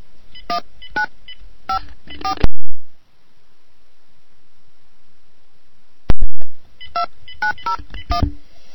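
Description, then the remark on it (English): A quick series of telephone keypad tones beeps out in bursts as someone dials a call using a phone card, with a sharp click and a quiet pause in the middle before another run of dialing tones resumes. “Let me get that freaking phone over here.”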